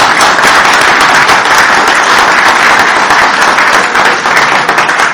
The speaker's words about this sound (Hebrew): תמחאו לו כפיים.